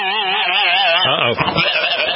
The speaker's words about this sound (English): Now, what would a flock of sheep that had ingested that much pot sound like? Something like this, maybe?